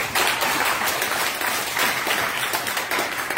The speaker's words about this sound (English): And I got to give it up to the choir. Can we just give the choir a round of applause?